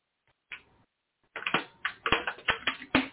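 Someone drinking water from a plastic bottle, the plastic crinkling in a quick series of sharp, loud crackles after a short rustle, with no talking.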